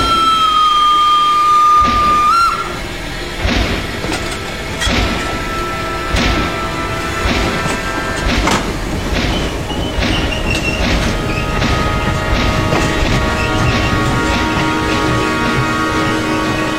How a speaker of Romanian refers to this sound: Și trenul se urni în cele din urmă.